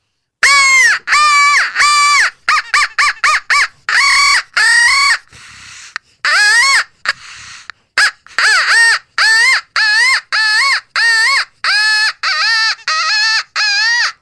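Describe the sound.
A crow call is blown to fire up crows, producing a loud, excited run of harsh caws, first in quick choppy bursts, then a steady series of drawn-out caws with short gaps, no talking.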